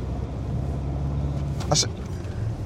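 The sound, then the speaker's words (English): A car engine drones steadily close behind, tailgating, a low continuous rumble mixed with wind buffeting, with a brief higher-pitched whine swelling partway through. “You're trying to bum me with your car? Well, back off.”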